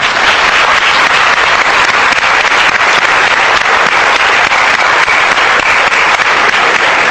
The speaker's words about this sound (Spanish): para la que pido un cariñoso aplauso.